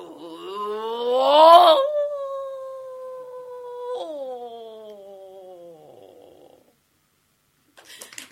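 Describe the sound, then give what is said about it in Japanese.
A person imitates a wild wolf's howl: one long unbroken cry that starts thin, swells and rises to a loud peak, then holds a steady tone that slowly sinks and fades. “一方野生の狼はと申しますと、これ逆なんですって。初めは細くてだんだんだんだんだんこう拡大をしていく、音楽用語でいうクレッシェンドというやつ。”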